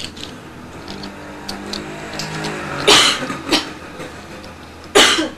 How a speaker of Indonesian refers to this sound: Batuk. Batuk nih. Gatal tenggorokannya.